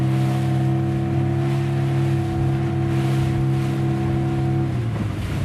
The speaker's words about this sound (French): on est sur ton bateau, on est parti en pêche, à quelle heure on est parti? On est parti à 6h.